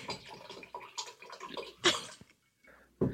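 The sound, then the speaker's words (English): Steady rush of running water, like a tap or small waterfall, swelling and splashing unevenly, cutting out briefly near the end before gushing back in. “I thought there was a waterfall, but I think that's... Is that maybe on your end?”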